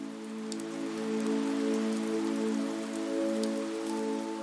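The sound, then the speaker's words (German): Gentle rain patters steadily, a soft continuous hiss dotted with scattered drop ticks, over a low sustained humming tone that holds throughout. No one speaks. “Und die Regentropfen auf deinem Gesicht fühlen sich erfrischend und sanft an.”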